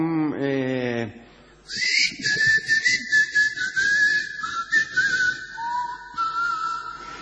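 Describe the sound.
A person whistles a flowing tango melody, one clear sustained tone sliding between notes for several seconds, fairly loud, after a brief voiced sound at the start.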